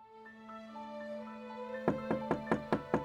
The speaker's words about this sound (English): In the early morning hours of April 10th, 1836, Rosina Townsend woke up to a knock at the front door of her New York City brothel.